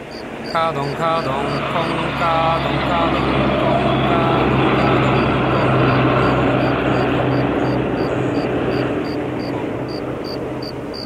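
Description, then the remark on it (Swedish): A huge truck drives past, its heavy engine a loud, steady roar with a low droning hum and a rapid rhythmic ticking that swells slightly midway through. “En jättestor lastbil åker förbi.”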